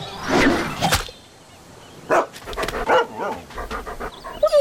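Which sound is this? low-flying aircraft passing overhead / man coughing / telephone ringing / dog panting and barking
dog panting and barking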